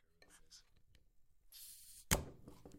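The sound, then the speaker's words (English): A fizzy tonic drink being opened: a brief rush of hissing gas ends in a sharp, loud snap, followed by a short fizzing tail. Faint murmured voices come before it. “Ooh, are we going in with the fizz?”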